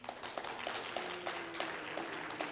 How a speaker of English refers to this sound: No. Okay, Buckeye fans, that's not what I said. Those boos.